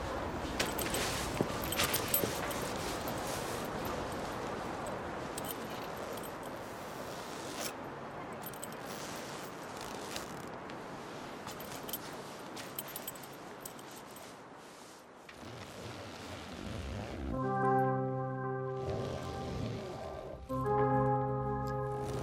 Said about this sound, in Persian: ولی چون سوزوندن سخته ما معمولا به صدای زیپ گوش میدیم. گوش میدی؟ آره، جنسای اصل حتی صدای متفاوتی دارن.